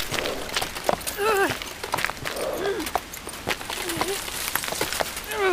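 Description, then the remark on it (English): Irregular, heavy hoof clops of a horse being dragged up a rocky forest hillside in the rain strike hard, rocky ground in an uneven climbing rhythm, mixed with strained, wordless vocal grunts and panting. “Dragging the horse up the hill over rocky inclines, I prayed to the mother for a shelter of any kind, a hedgerow, a shrub, a cave.”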